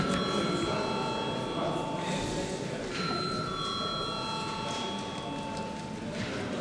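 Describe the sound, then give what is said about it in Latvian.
A parliament chamber voting bell rings steadily and without pause after deputies request a vote, its bright, sustained tones holding over a loud, continuous murmur of many people talking in the background. “Deputāti prasa balsojumu, lūdzu zvanu.”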